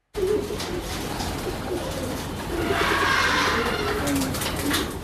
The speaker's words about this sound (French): Vous voyez, j'ai beaucoup de pigeons ici.